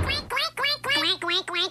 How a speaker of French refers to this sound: Quoi, il y a des canards dans le restaurant? Ah, c'est pour ça qu'on appelle ça le café du coin. C'est pas un peu étrange, 3 canards dans un restaurant, patron?